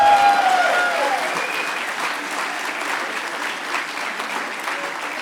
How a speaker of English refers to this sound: Okay, seriously, who said that? Get up. Give that guy a round of applause for a good troll.